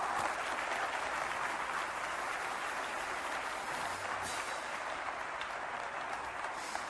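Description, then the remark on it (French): An audience applauds steadily in a reverberant church for a living God, dense clapping from many hands sustained throughout at an even level, with no speech over it. “Allez, s'il y a un applaudissement au Centre Bell pour un but de Yann Boulis, je pense qu'on a le droit d'applaudir dans une église pour un Dieu qui est vivant.”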